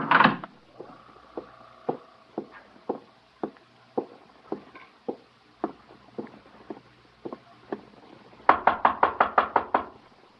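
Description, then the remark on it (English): Steady knocking on the wooden door of room 812, about a dozen evenly spaced raps, then a rapid, louder burst of pounding at the end. No voices. “Open the door.”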